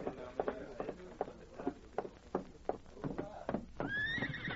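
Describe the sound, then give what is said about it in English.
Hooves clop in a steady, uneven rhythm of sharp knocks as a masked man's horse is reined up, then the horse lets out a loud, high, wavering whinny that rises and trails off at the end. “A masked man just reined up outside.”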